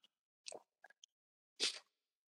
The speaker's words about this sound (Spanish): Otro traguito de jugo de arándanos.